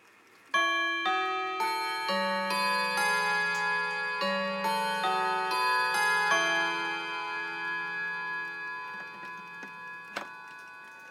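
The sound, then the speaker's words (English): A clock chimes the quarter-to, a melody of bright, ringing bell tones that overlap and sustain, each new note struck about every half second, slowly fading, with faint ticking underneath and no talking. “I'll take you through the whole chime on this. It's a beautiful chime, this.”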